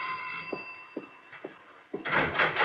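A doorbell buzzes in one steady, harmonic tone for about two seconds alongside a few soft thumps, then gives way to a louder burst of rustling, door-like noise. No one speaks.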